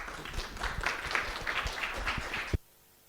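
An audience applauds a speaker introduced to talk about democratizing technology and AI, clapping steadily for about two and a half seconds, a dense wash of many overlapping hand claps, before the applause cuts off abruptly into near silence.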